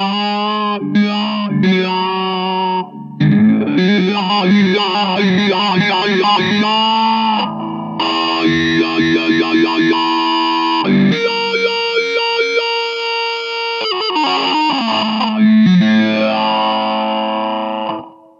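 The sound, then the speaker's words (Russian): A guitar effects preset with wah: an electric guitar played through a wah effect, its tone sweeping up and down in a vocal, quacking way, with distortion and chorus-like shimmer over chords and melodic runs, steady and loud throughout. “А вот и следующий пресет с квакушкой как раз.”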